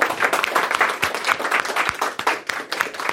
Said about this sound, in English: So before we get any other questions, another big round of applause for Gabe.